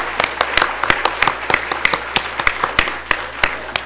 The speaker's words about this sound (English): 我们先给他们一个这个掌声来。 Let's welcome them with the applause.